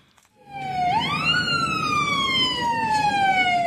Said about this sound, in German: Chaos in Libanons Hauptstadt Beirut. Krankenwagen bahnen sich den Weg durch die Massen.